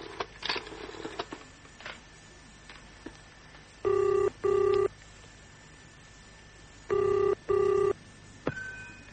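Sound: telephone ringing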